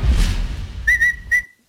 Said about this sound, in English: What's that? That? You whistling, you weirdo?